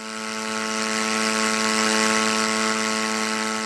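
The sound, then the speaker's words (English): A steady, buzzing drone of a small unmanned aircraft engine in flight at Joint Base Elmendorf-Richardson (J-Bear) in Anchorage, with a strong low hum and harsh raspy overtones, swelling slightly in loudness and holding for several seconds. “That sound recorded from a UA flight at J-Bear earlier this month.”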